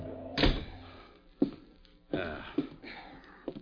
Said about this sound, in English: Kick the door shut.